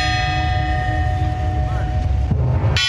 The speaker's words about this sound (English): The bells are tolling again today at Notre Dame.